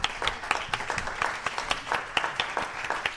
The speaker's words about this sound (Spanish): ¡Bravo! Un fuerte aplauso para ellas.